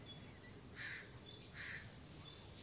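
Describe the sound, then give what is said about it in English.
Outdoor ambience with birds chirping in short bursts against a steady background hiss, the calls soft, with no one speaking. “Let the birds be the birds, and let the helicopter be the helicopter.”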